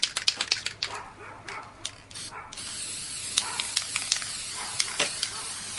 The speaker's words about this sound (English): And now I'm spraying my frame. I'm spraying gold 18 karat spray paint on my frame right now, and a little bit on the actual work.